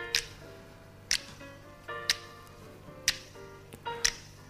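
Five crisp finger snaps land at a steady pace of about one per second over soft, sustained instrumental music, each snap sharp and bright against the quieter tonal backing.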